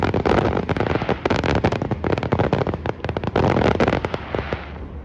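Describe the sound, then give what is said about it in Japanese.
A dense barrage of fireworks bursting and crackling without pause over Lake Burley Griffin in Canberra, sharp pops layered over a continuous loud rumble, with no voices; part of the 20-minute main fireworks display launched above the water in fine weather. “そして、メインの花火なんですが、新年のお正月の花火よりも長い20分間、鮮やかで様々な模様の光が、バーリー・グリフィン湖の水上に打ち上げられました。”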